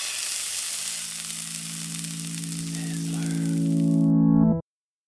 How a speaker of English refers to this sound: can we get a sizzle sound cue?